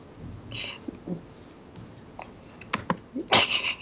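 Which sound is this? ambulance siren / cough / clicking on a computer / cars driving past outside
clicking on a computer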